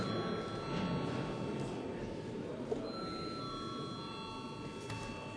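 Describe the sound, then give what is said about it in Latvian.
A parliamentary voting bell rings continuously for several seconds, a steady, even electric tone over a low murmur, with no one speaking. It is rung to call deputies to vote on a bill amending the law on judicial power in its second reading. “Paldies, lūdzu zvanu.”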